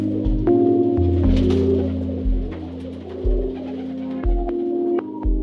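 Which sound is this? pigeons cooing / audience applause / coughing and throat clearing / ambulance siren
pigeons cooing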